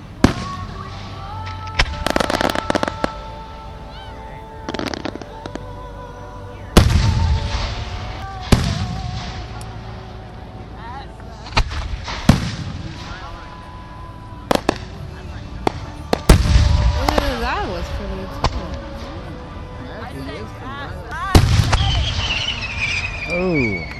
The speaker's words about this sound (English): Now acrid smoke is beginning to fill the air as these fireworks go off and these embers start falling from the sky.